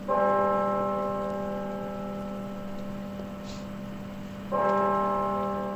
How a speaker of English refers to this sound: Bells tolled at Arlington National Cemetery today, where President Obama marked Veterans Day by placing a wreath at the Tomb of the Unknowns.